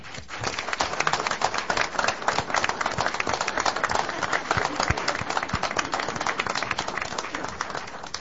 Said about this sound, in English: So I'd like to take a moment here and give a good round of applause